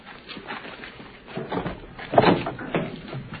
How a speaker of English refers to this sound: When do you open the door? Open the door